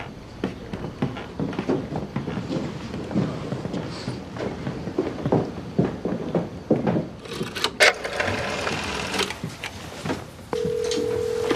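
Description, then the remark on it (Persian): A telephone inside the house being dialed to return a call: a busy stretch of clicks, clatter and handling noise, then a steady, humming dial tone holds alone through the final second, fairly loud. “گفتم بهشون زنگ بزنی. تلفن کجاست؟”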